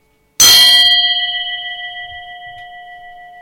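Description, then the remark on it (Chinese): A single bell is struck once with a bright metallic attack, then its clear, steady tones ring on and slowly fade over a few seconds, with no voices. “听到啦，一个钟声，一个静咗嘅声，啱唔啱啊？”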